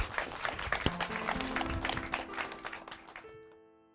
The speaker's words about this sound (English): For everyone, yes, big round of applause.